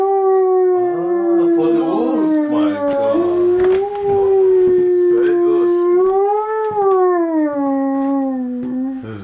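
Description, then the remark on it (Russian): A long, sustained wolf-like howl made by a hunter with a hunting call while demonstrating hunting calls to guests at his country estate, its pitch gliding and wavering steadily for several seconds, loud, with faint background noise and no talking over it. “Я заспеў гаспадара, калі той дэманстраваў гасцям паляўнічыя амаль музычныя інструменты.”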